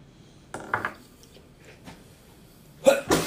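An abrupt sneeze: a short breathy burst early on, then a louder, explosive two-part sneeze at the end, with quiet pauses between them.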